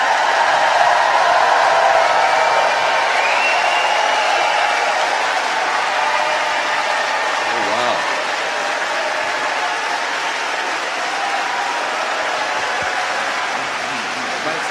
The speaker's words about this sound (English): So we need everyone to give Reverend Barber a big round of applause for the podcast. Do that now.